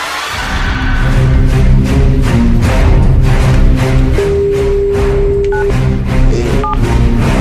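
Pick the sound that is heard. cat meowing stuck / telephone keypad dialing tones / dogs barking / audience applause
telephone keypad dialing tones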